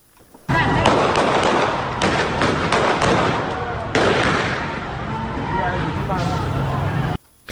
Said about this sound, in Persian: در برخی از تصاویر برخورد نیروهای حکومتی با معترضان نیز دیده می شود و از جمله در تصاویر کوتاهی از باغ ملک در خوزستان صدای شلیک تیر شنیده می شود.